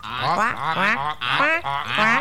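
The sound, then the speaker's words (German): A voice imitates frogs croaking at a pond: about five throaty, gurgling calls in a steady rhythm, each swooping in pitch, fairly loud and with nothing else beneath them. “Da hörte er schon von Weitem, wie die Frösche riefen.”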